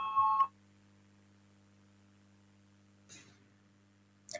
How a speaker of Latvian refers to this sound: Lūdzu zvanu, balsosim par 5. satiksmes ministra Linkaita priekšlikumu, lūdzu balsosim.